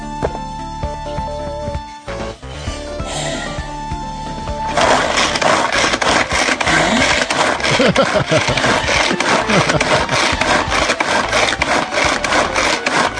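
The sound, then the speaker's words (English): A hand chopper works through half a Granny Smith apple cut into quarters, giving a fast, steady run of loud clacking, crunching strokes that starts after a few seconds of quieter sound and keeps going to the end. “In my chopper, I have half a Granny Smith apple that I've cut.”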